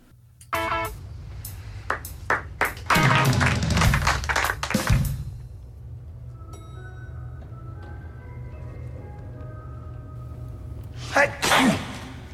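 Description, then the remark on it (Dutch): A loud sneeze into a booklet bursts out after a few sharp taps, followed by a quieter stretch with faint tonal chiming, then another brief sneeze-like burst near the end. “Ja, en hij niest echt … zijn kop helemaal vol in dat boekje.”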